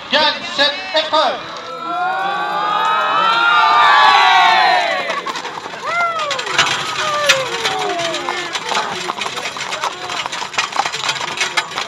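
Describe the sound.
A large crowd cheers and shouts with many overlapping voices swelling loudly, then settles into steady clapping mixed with scattered calls and whoops, applauding the winning crew of a chariot race (a 'romaine').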